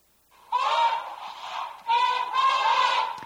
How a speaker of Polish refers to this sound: Ale ten dźwięk słoni na pewno słyszeliście, dlatego że słonie produkują dźwięki na granicy słyszalności, ale to, czego my nie słyszymy, jest naprawdę bogatsze.